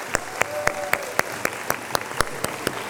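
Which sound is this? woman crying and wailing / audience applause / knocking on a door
audience applause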